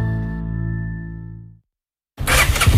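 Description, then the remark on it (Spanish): A sustained tonal hum fades out, and after a brief silence the loud, rough engine of a new Honda Forza 125 scooter bursts to life and revs up. “Gandhi Auto te lo ponemos muy fácil para que estrenes tu nueva Honda Forza 125”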